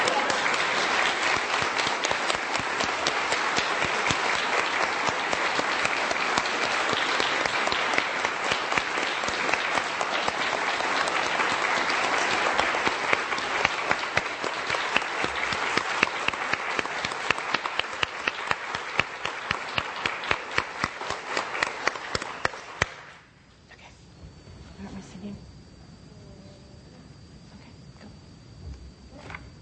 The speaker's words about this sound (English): And though I hate breaking the moment in a certain way, y'all have been really dying to applaud these young people, haven't you?